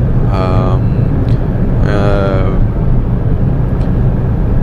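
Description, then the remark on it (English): Steady, loud roar of a car cabin at high speed, about 180, on a highway, a dense rumble of road and wind noise throughout, with two short bursts of a voice over it. “All right, back up at 180 now, and I'm gonna try and keep this up as long as I can.”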